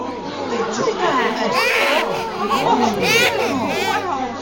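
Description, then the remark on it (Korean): A baby, startled by the sight of arriving visitors, wails in repeated rising and falling bursts, loud, the crying continuous throughout with brief catches of breath between cries. “들리는 소리라고는 우리의 모습에 놀란 아기의 울음소리뿐이었다.”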